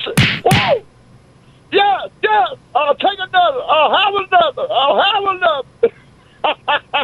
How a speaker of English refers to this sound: Whoa! Yeah, yeah. I'll take another. I'll have another. Just pimp slap the hell out of me, brother, because it's clear I ain't right.